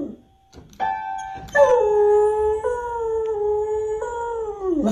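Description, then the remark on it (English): A couple of piano notes ring out as Buddy the beagle plays the piano with his paws on the keys, then the beagle lets loose a long, loud, wavering howl, its pitch sliding down at the end. “Buddy's a beagle. Buddy walks up to the piano, Buddy plays the piano, and Buddy sings.”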